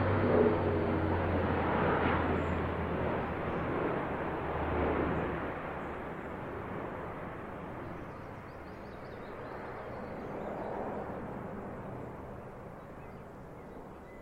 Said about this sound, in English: I thought, gosh, beautiful piece. And this great big military plane came overhead, really low. And as you can hear, but still, it's part of the sound of the countryside.